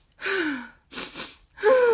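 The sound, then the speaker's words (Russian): Deliberate breathing demonstrating the physiological sigh, the breathing used when crying that lowers the stress response: a shaky, voiced gasp, then a quick two-part inhale through the nose, followed by a loud, sighing exhale through the mouth. No one speaks. “Это дыхание с двойным вдохом через нос и выдохом, часто созвучным, таким звучным выдохом через рот.”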